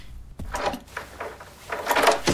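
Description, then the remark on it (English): A door being opened to a visiting doctor: a sharp click followed by a series of scraping, rattling bursts as it swings, with no voices over it. “Please open the door.”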